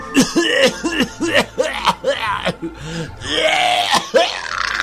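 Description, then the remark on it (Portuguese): A man clears his throat and coughs repeatedly in a rough, gravelly series of loud bursts, with harsh hacking and rasping sounds running through the whole stretch. “Por que eu tenho esse pigarrinho?”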